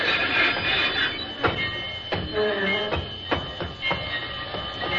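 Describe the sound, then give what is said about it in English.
A train rumbles steadily along the rails, with a dense roar and a series of sharp, irregular clacks from the wheels passing over track joints, loud with no voices. “It simply isn't possible for a train to run on a concrete road.”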